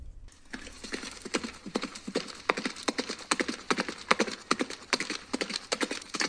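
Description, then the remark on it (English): An ordinary horse gallop: hooves clip-clop steadily in a brisk galloping rhythm, the repeated sharp knocks clear for several seconds with no voices. “Here is a regular horse gallop.”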